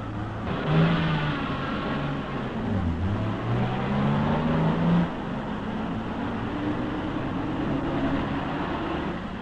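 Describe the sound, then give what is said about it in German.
A heavy tank engine revs up and down, its deep growl rising and falling in pitch over a steady mechanical rumble, loud, with no one speaking. “Pferd und Motor. Panzer und Geschütz geben der übergetretenen Armee das Gepräge.”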